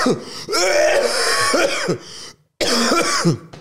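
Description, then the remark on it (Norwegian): A person coughs and clears their throat in harsh, rasping bursts, with a brief pause before another strained round of hacking. No speech. “Bare hoste ut. Hoste ordentlig ut.”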